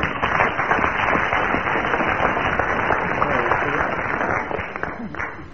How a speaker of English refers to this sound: Oh, incidentally, Willie has now done the Rubik cube. Yes. Round of applause for Willie.